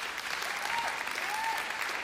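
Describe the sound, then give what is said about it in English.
Steady audience applause for the speaker's 15-year-old son, called up from the front row: a dense wash of many hands clapping at an even loudness throughout, with a couple of faint whistles rising above the noise. “But give him a big round of applause anyway.”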